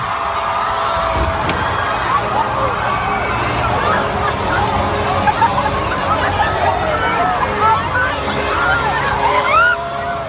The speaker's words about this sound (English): Basically, the crowd was just pushing against this barricade, and it toppled over, and then everyone let loose.